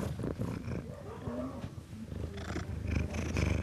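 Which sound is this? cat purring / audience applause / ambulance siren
cat purring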